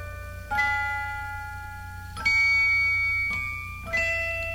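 A Christmas record's instrumental intro: bright, bell-like chords struck four times at an unhurried pace, each ringing out and slowly fading, over a steady low hum, with no singing or voices.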